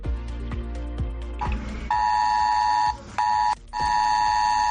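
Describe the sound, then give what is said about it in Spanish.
A loud, steady, buzzing mobile emergency alert tone, a red alert for heavy rain of up to 120 litres per hour received by thousands of phones in the north of the province of Cáceres after 11:30 at night, sounds after a short stretch of rhythmic tapping, holding one pitch with two brief breaks before resuming. No one speaks. “Hoy estamos muy pendientes del norte de la provincia, donde la pasada noche, pasadas las 11:30, miles de personas recibían esta alerta en sus teléfonos.”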